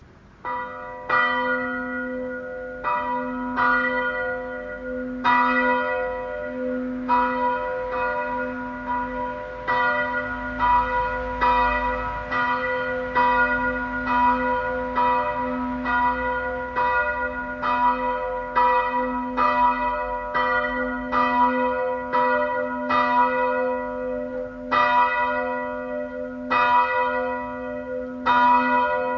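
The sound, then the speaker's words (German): A small church bell rings steadily and repeatedly, each clear metallic strike leaving a bright, sustained hum that overlaps the next, heard on its own without any voices. “Wir wollen diese kleine Glocke jetzt hören.”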